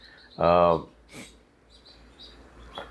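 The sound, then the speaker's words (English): House sparrows, an old world sparrow species, chirping: one loud, harsh chirp stands out, followed by a few faint, high chirps and twitters in the background. “I have what are called old world sparrows.”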